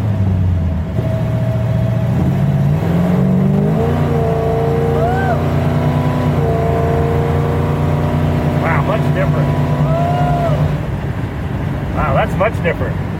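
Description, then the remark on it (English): A powerful muscle car engine with a 4-speed manual gearbox roars steadily up through the revs, its pitch climbing and dropping as the driver shifts gears, loud throughout. “Well, you were shifting, too, so that made a difference, too.”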